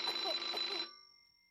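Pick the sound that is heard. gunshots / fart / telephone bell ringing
telephone bell ringing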